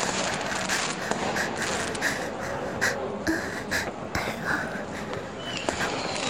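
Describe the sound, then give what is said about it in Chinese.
Fireworks that a crowd is watching pop and crackle, a steady scatter of bursts with sharper bangs every second or so, over a constant hissing background with faint breathy sounds. “还好大家现在都在看烟花。”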